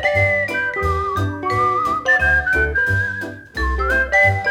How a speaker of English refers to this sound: Whenever I feel afraid, I hold my head erect and whistle a happy tune. While shivering in my shoes, I strike a careless pose and whistle a happy tune.